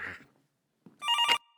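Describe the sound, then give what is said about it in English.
A telephone bell rings in a short, bright burst of harmonic tones, loud, preceded by a faint rustle and a brief thump, with no one talking. “Everyone's been telling me not to answer the phone.”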